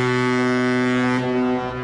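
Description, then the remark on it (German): A deep, loud horn of a cruise ship such as the Symphony of the Seas, docking at the port of Barcelona, blares in one steady sustained blast, its low droning tone rich with harmonics, easing slightly toward the end. “Wenn am Hafen von Barcelona die Symphony of the Seas oder einer der anderen Ozeanriesen anlegt, hört sich das so an.”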